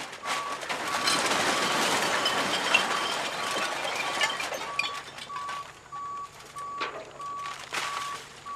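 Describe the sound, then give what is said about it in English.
A truck dumps a load of recycling for visual inspection at the Materials Recycling Facility by the county landfill southeast of Orlando, with a loud, rumbling clatter of tumbling material, while a steady, mid-pitched reversing beep sounds at regular intervals throughout. “It's to the southeast of Orlando, and it's where the county trash is piled onto a vast landfill, and it's here that trucks deliver loads of recycling to the MRF, that's the Materials Recycling Facility. It all gets dumped out for a visual inspection.”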